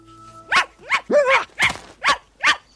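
A little black dog yaps six times in a quick, fairly even series, the high-pitched barks clear with brief gaps between them and no one speaking.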